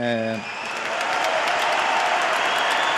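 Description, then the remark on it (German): A large stadium crowd bursts into loud, sustained applause and cheering for Rafael Nadal after his singles match, the very last match of his tennis career, a dense steady roar of clapping that carries on after a brief voice at the very start. “Und dann gab es noch ja mega großen Applaus und Jubel und es klang dann so.”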